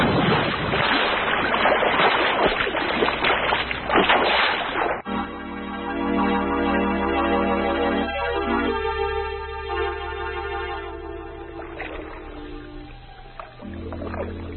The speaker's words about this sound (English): There she goes. Your plane lost to the bay.